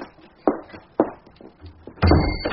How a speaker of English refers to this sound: Other, lock the door as you go. Right.